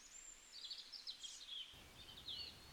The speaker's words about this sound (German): Aber vielleicht kommt das Piepen ja auch von ganz woanders. Denn auch jetzt im Winter lassen sich draußen einige Vögel beobachten.